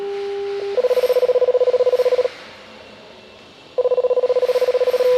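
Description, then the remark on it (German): Electronic telephone tones play alone, a steady beep followed by two bursts of rapid, evenly pulsing tone separated by a short pause, clear and fairly loud, from a telephone that tunnel supervisors use to tell each other how full the lifts are. “Über ein Telefon informieren sie sich darüber, wie voll die Aufzüge gerade sind.”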